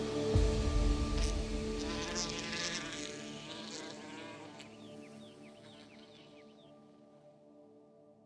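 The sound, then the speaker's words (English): A wasp buzzes steadily, its drone loudest at the start and slowly fading over several seconds, with faint high chirps appearing in the background near the end. “One that goes way back to a wasp in ancient China.”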